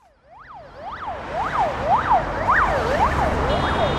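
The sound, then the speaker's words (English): Heavy morning rush-hour traffic on the Garden Ring Road in Moscow, Russia, roars steadily and grows louder, while an emergency siren wails in rapid up-and-down sweeps over the rumble. No one speaks. “As Moscow's morning rush hour traffic roars past on the Garden Ring Road”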